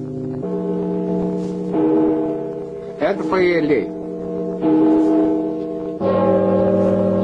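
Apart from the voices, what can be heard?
large church bell ringing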